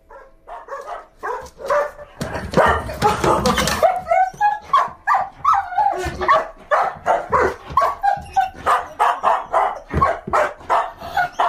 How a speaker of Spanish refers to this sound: Bueno, pues resulta que no es solo el sonido este tan habitual con el que los perros expresan sus sentimientos de emoción.